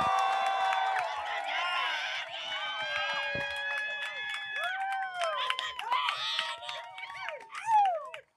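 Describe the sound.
A crowd at a Just Trek anniversary event cheers and whoops for several seconds as a person is brought out, with many high, overlapping voices yelling at once. A few rising and falling whoops stand out as the noise swells toward the end.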